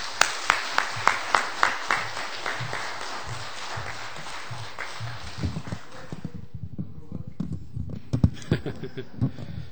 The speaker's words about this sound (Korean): 우리 박수로 이번엔 좀 환영해 볼까요? 자, 나오시겠습니다.